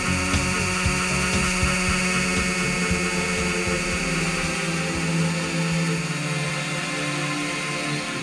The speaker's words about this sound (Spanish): Pero cuando algo no nos gustaba, enseguida conectábamos la batidora.